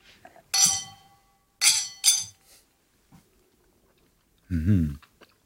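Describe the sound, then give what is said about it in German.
Glasses holding a foamy coffee drink topped with coffee beans clink together in a toast, three bright, ringing taps in quick succession, followed after a pause by a brief murmur from a voice. “Hoch die Gläser, oder? Hoch die Gläser.”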